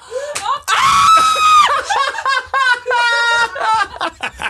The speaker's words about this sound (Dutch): Maar schreeuw ook alsjeblieft niet zo hard.